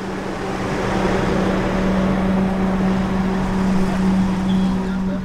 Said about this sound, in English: The enormous truck took off through the water, searching for the toddlers.